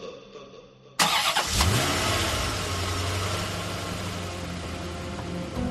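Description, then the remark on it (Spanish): A car engine cranks and catches with a sudden loud burst, then settles into a steady idle rumble that continues to the end, with no voices; the car is being started in the afternoon for a drive back to Madrid. “Victoria coge el coche esa misma tarde para volver a Madrid junto a sus hijos”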